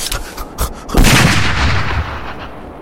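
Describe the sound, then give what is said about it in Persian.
A few sharp gunshot cracks ring out, fired at a man carrying bottles of milk, followed by one loud, booming shot that rolls into a long echoing rumble lasting a couple of seconds. No one speaks. “بازم شلیک کن، اجازه شو داری بازم شلیک کن.”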